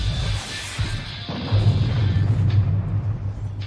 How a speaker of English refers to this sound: Holy fucking shit! What the fuck was that? What the fuck was that explosion?